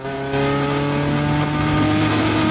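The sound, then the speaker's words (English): Loud, steady engine drone of a lorry followed by three black cars driving along a road beneath a clear blue sky, the motors swelling after a brief moment and holding a throaty revving hum throughout, with no voices. “Then a lorry drives down the road beneath a clear blue sky, followed by the three black cars.”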